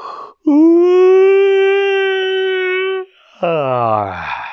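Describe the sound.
A voice imitates a crocodile yawning: a long, loud, steady drawn-out 'aaah' lasting a few seconds, then after a brief pause a second groaning yawn that slides downward in pitch.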